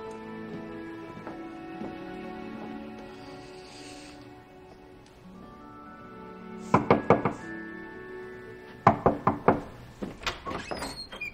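A quiet background with faint sound, then two bursts of sharp, rapid knocking on a door, each a quick series of four or five raps, the second louder and followed by a few more knocks.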